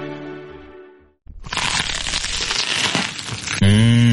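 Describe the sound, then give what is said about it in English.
A loud, crispy bite into crunchy vegan food, followed by about two seconds of dense crackling chewing. A short tonal sound and a pause come before it, and a hummed 'mmh' follows. “Mmh, crunchy, kross und saftig.”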